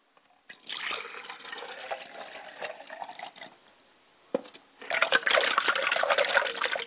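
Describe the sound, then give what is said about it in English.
A person washes their face: water splashes in two bursts of wet, sloshing sound as hands scoop and splash water onto the face, with a brief pause and a sharp drip between them. “Ladies and gentlemen, I cannot greet my ancestors with a stale face, so I must wash my face.”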